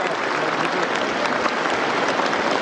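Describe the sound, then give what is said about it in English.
A crowd applauding steadily for Xi Jinping as he shakes hands, a dense wash of many hands clapping at an even, loud level that never lets up, with no pauses or swells; the applause goes on for 20 minutes. “And the clapping doesn't end.”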